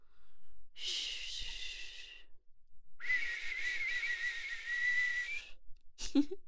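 Two long, breathy whistles, the first about a second and the second longer and steadier, followed by a short sharp puff of air, all fairly close with no talking.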